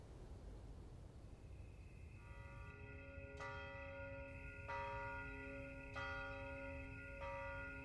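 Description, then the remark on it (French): A church bell tolls midnight in slow, evenly spaced strikes, echoing off the cobblestones of deserted town streets, each one ringing out with a long resonant hum that blends into the next, over a low background rumble. “L'écho des cloches rebondissait sur les pavés des rues désertes. Minuit venait de sonner”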